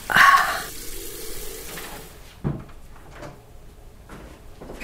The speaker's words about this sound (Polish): umyję ręce i nastawię wodę.